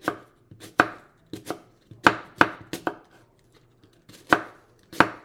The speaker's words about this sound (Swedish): Ska jag nog försöka skiva den här tungt. Inte alldeles lätt. Men... och jag tror faktiskt inte att jag skivar den så där, utan jag halverar den. Och sen kör jag med... sen liksom bara försöka skära den så tunt det bara går.